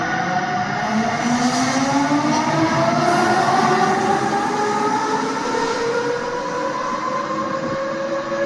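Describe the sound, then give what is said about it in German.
A steady, loud electric locomotive runs, its rising motor whine gliding upward in pitch over a constant rumble of rolling wheels. No voices are heard. “Elektro.”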